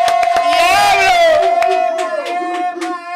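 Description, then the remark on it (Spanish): A lively, packed studio audience cheers and shouts to welcome a guest, with a sustained, wavering whoop rising over sharp bursts of clapping, loud throughout. “So, yo pido que aquí hagan un revuelo a otro nivel para recibir gente.”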